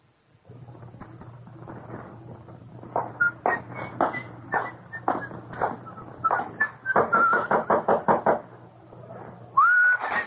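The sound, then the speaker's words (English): A long series of sharp knocks on a door, someone calling a man to chow, starting spaced and speeding into a rapid, insistent flurry, with a faint whistling tone and a low steady hum underneath. “Don't you answer when a guy knocks?”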